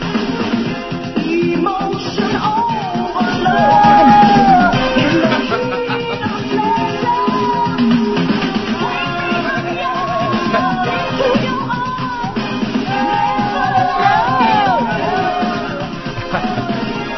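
A bouncy pop song plays steadily, its sung melody repeatedly replaced by shrill, bleating goat screams that yell out over the beat, loud and slightly muffled throughout.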